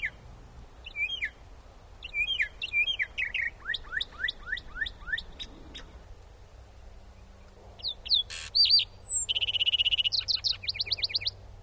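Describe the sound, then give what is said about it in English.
A lark sparrow perched atop a light pole sings a run of buzzy trills and sweet chirps, then a northern mockingbird drives it away and takes over with loud, varied, repeated phrases, all outdoors over a low steady background rumble. “In the following recording, we hear the last sparrow and the first mockingbird songs.”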